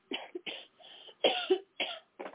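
A series of about five harsh coughs in quick succession, fairly loud, with brief gaps between bursts and no talking.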